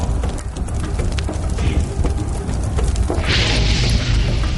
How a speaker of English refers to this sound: His troops set fire to the wooden beams supporting the tunnels. As they burned, the walls above came crashing down.